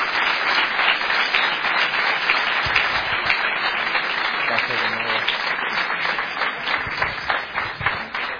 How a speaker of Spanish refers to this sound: Yo sé que ellos lo hacen todo para la gloria del Señor, pero os pediría un aplauso en gratitud por nuestros hermanos.